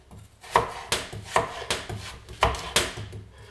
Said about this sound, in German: Und auch die Süßkartoffel schneide ich jetzt in kleine Würfel.